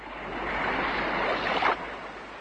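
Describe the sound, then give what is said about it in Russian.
Rolling sea waves wash steadily in a broad, hissing roar, a slightly rough surf that swells and crests near the end, with no voices present. “Вот пошел он к синему морю, видит, море слегка разыгралось.”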